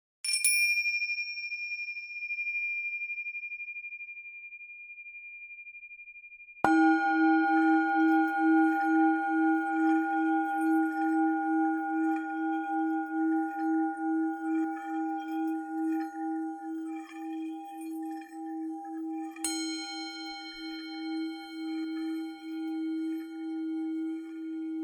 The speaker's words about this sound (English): The first strike of the gong was indeed a little shocking.